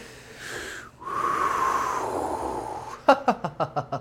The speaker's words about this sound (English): But we're gonna bring it down. We're gonna bring it down. Mm-hmm. And we're going to focus on our breathing.